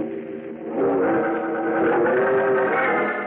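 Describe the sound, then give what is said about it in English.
Bruce Wayne's powerful Batmobile races down the street at night, its engine roaring and surging past, pitch rising steadily as it accelerates, loud and continuous for a few seconds with no voices. “Just as Bruce Wayne's powerful Batmobile comes racing down the street, its powerful headlights pouring twin tunnels of light through the”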